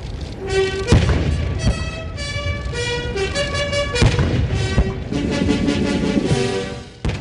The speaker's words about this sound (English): the Chinese national anthem and a booming salute on the White House South Lawn yesterday for Chinese President Hu Jintao